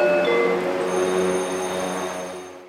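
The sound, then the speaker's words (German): A tram on a service run, just arrived at platform 3 of a station, its motors giving a steady electric whine over a low mechanical rumble that stays fairly loud before fading away at the end. “Das eben eingefahrene Tram ist eine Dienstfahrt.”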